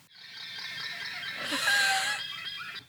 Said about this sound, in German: Lamas, übrigens, Lamas machen folgende Geräusche.